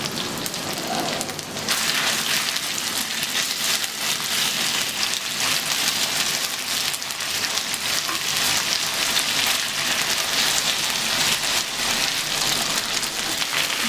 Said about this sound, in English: Now you can see that they've turned nice and brown and now we're going to add our chicken. And now you've just got to wok the chicken.